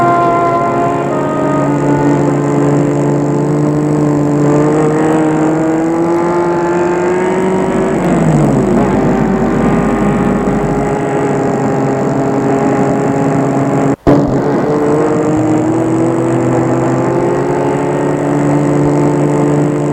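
A car engine hums loudly and steadily as the vehicle drives up near the Grandjean headquarters, its pitch dipping and rising midway, with a brief sharp click near the end and no voices.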